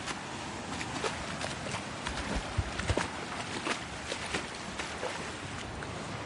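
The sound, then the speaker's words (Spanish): Feet slosh and splash through shallow seawater at a small cove in Villajoyosa, near Alicante, Spain, in a steady, irregular rhythm, with a constant watery wash and a few sharper splashes standing out. “Estoy grabando este programa a la vez que chapoteando con mis pies.”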